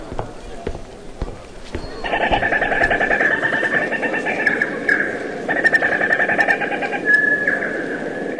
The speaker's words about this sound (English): Let's visit the African grey parrot.